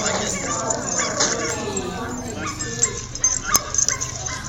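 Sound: dogs fighting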